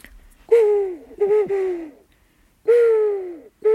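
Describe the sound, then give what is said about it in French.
An owl hoots loud and clear: about four drawn-out, slightly falling tonal calls with brief pauses between them, and no talking. “le hibou au repos, un peu, il est un peu comme une chouette, on pourrait dire.”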